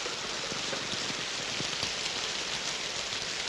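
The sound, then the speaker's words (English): Steady, heavy rain pours down around a large ornate gazebo in a dense continuous hiss, with scattered louder drops pattering on a surface; no voices. “Dale rides through the pouring rain up to a large ornate gazebo.”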